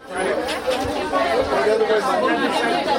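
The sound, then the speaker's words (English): A steady murmur of many overlapping voices, people chatting all at once with no single speaker standing out, at an even, moderately loud level throughout: a crowd outside Eglise du Nazarene Church in Little Haiti, Miami, on a warm summer day, standing in line as volunteers hand out food parcels. “On a warm summer day, a crowd gathers outside Eglise du Nazarene Church in Miami.”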